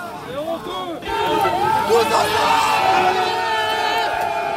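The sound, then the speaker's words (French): A loud, dense crowd commotion swells after the first second into a sustained surge of many overlapping shouting voices as workers scuffle and push against the shields of riot police and gendarmes, with no clear individual impacts standing out. “Tous les salariés s'y mettent, là, ils poussent les boucliers.”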